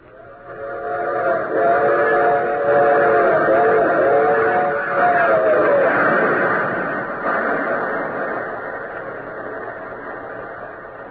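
A train boarded at Washington rumbles steadily and loudly along the rails, while a multi-tone whistle sounds for a few seconds early on before the clatter continues and slowly eases.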